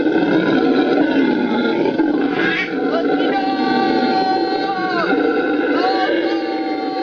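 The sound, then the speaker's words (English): Howler monkeys roar in a loud, continuous, droning chorus, with a human voice briefly screaming back at them in imitation over the din. “This is a howler monkey.”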